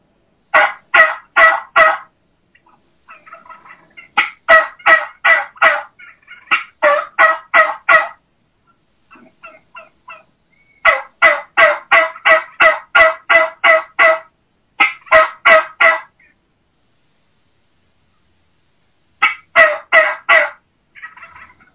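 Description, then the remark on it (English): Imitated turkey hen yelps, low and slow, mimicking a boss hen or old mature hen, with the lower note of the call accentuated rather than the high note, delivered in steady runs of four to eight notes separated by short pauses, loud with no talking. “typically people will say, well, this is, you know, the vocalization of a boss tom or a old mature, or excuse me, not a boss tom, boss hen, or an old mature hen.”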